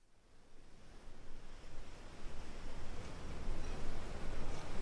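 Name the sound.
waves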